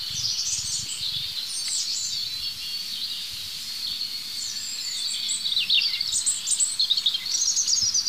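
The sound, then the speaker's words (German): A European robin sings a fine, high, trickling song of thin warbled phrases, continuous, with a faint low rumble beneath and no voices. “Jetzt habe ich mich gedreht zu dem anderen Rotkehlchen, es ist gerade still geworden. Oh, da geht's los.”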